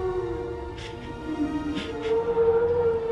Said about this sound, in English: A brachiosaurus is made up of elephants and cows and donkeys. Right after that, the brachiosaurus make a singing sound.